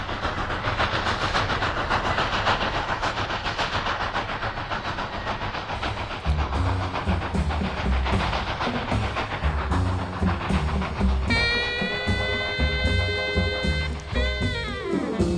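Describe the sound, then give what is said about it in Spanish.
A train rumbles steadily past on the tracks with a rhythmic clatter of wheels, loud, before a long multi-tone horn blast sounds near the end. “Hoy, como podéis escuchar ruido de fondo, nos llegan a la isla los trenes del rock and roll, los trenes de la isla.”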